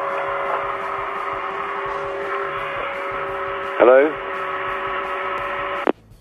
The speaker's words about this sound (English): Whilst doing the hoovering, by the sounds of it. That was actually me. because somebody was hoovering in here at about 6:30 this morning.